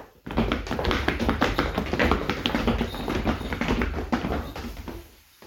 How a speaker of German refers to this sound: Der Rentiervater Donner war eines der größten und stärksten Rentiere. Von weitem konnte man schon seine großen, starken Hufe hören.